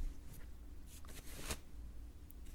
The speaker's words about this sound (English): Let me get this pencil skirt down for you.